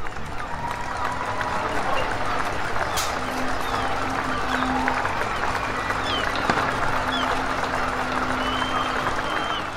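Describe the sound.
Many people standing outside clap steadily for the NHS through the whole stretch, with occasional sharp metallic bangs of pots and pans being banged and faint crowd voices underneath.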